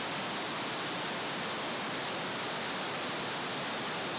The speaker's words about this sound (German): Ein rosa Rauschen. Du erinnerst dich? Pink Noise, eingefangen mit einem Schmetterlingsnetz.